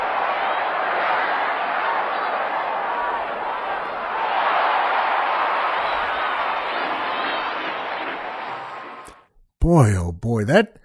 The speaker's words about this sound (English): That just sounds like a homer, doesn't it? And I think I should tell all the folks out there that that second cheer you hear there, where it goes up again, oh, yeah, that's where they hang someone.